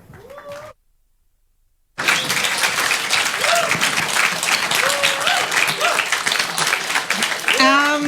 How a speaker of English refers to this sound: A huge applause for them.